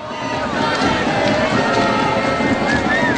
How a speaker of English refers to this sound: Israelis in the streets calling for an end to the status quo, an end to growing inequality. Here were protesters chanting, singing, cheering this weekend in the streets of Haifa.